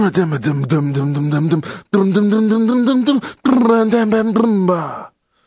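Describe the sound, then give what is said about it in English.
A person vocally imitates an elephant dancing with three loud bursts of strained, groaning trumpet-like noises, the pitch sliding and wobbling, separated by brief pauses and ending abruptly. “Elephant dancing.”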